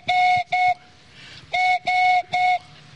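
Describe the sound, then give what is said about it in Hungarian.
A handmade bird call imitates a collared dove: five steady, reedy whistled hoots, a pair followed after a short pause by a group of three, mid-pitched and fairly loud, with no talking. “Ezt pedig balkáni gerlének hívják, vagy vadgalamnak hétköznap.”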